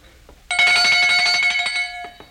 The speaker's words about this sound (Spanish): ¿Oye usted esta campanilla? ¿Cómo dice? Que si oye esta campanilla...